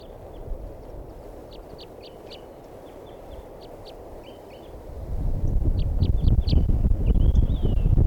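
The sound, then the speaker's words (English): A yellow male wild bird, the one not yet caught in a net, calls outdoors in short, high-pitched chirps, repeated in irregular bursts over steady wind noise that grows louder and rougher in the second half. “I'm gonna record that one bird that's not caught yet.”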